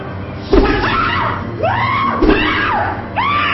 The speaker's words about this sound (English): So here she is now. She's screaming and shouting. The demon's coming out of her, right?